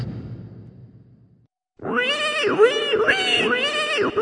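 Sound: pig squealing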